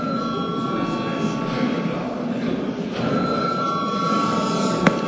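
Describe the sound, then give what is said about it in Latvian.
The chamber bell of the Saeima, Latvia's parliament, rings continuously for several seconds to call a break, a steady, shrill electric tone held without a break over a low murmur of voices and shuffling. “Kolēģi, ir pienācis laiks pārtraukumam, tāpēc lūdzu zvanu.”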